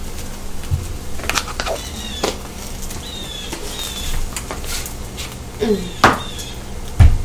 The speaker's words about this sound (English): Oh, door slam. Someone's up. Someone besides me.